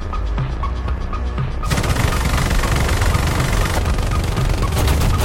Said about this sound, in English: Starting strong with a powerful German-made 35mm cannon, using armor-piercing, discarding Sabot shells.